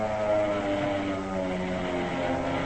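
A P-38 fighter plane flown by Hank: its propeller engines drone steadily, a loud, sustained throbbing roar with layered low harmonic tones that hold constant throughout, with no voices.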